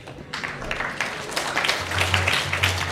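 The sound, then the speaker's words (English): A crowd breaks into steady applause, a dense patter of many hands clapping at once that holds at a moderate level throughout, with a low hum coming in toward the end. “Giving a round of applause there.”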